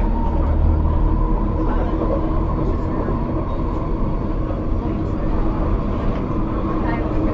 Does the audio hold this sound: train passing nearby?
yes